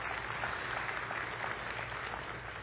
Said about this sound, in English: Let's give them another round of applause and thank them for that.